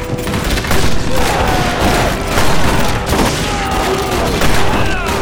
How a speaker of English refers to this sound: The man in the boxcar eased open the door, poked the barrel of a rifle out, and began to return the outlaw's fire. One of Slaughter's men went down hard, a bullet tearing his throat out.